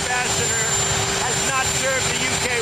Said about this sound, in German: so Trump kaum verständlich vor seinem knatternden Hubschrauber